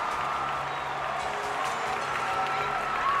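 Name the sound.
stadium crowd cheering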